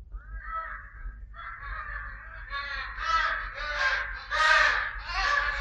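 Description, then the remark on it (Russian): A flock of wild ducks, geese, swans and gulls calling together at the seashore as they feed on sleeping fish, harsh overlapping honks and squawks that build louder toward the end over a low steady rumble. “Дикие утки, гуси, лебеди и другие незваные гости слетели сюда, почуяв добычу.”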